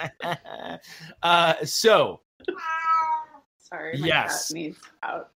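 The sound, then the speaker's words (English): A cat meows repeatedly, a series of loud, drawn-out, wavering cries with short pauses between them. “That cat.”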